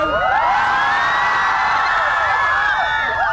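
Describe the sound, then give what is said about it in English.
A dense crowd in Bangkok screams and cheers loudly and continuously in the late afternoon, greeting the arrival of an election-winning party leader, many high voices overlapping in shrill, rising whoops that fill the whole stretch without pause. “His arrival greeted with screams and cheers.”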